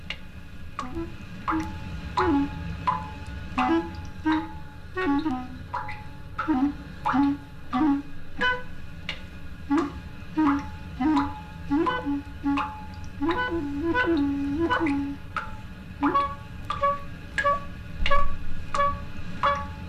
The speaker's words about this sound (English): here is … playing against the rhythm of dripping water in the kitchen sink